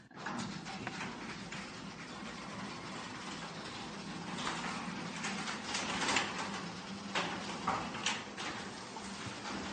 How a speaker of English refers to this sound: Let me close the door.